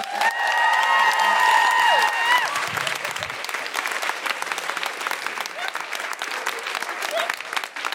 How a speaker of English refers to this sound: Big round of applause